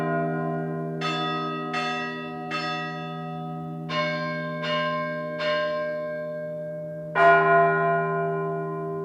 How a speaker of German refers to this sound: Das manuelle Glockenläuten gehört jetzt zum immateriellen Welterbe der Menschheit